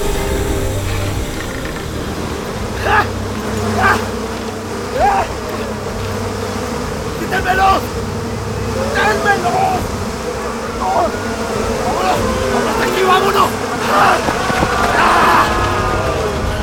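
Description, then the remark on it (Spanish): A dense swarm of bees and wasps buzzes steadily and loudly throughout, a thick droning hum with occasional sharper whirring flurries rising above it, no voices present. “¡Avispas! ¡Abejas! ¡Vamos a necesitar de ustedes!”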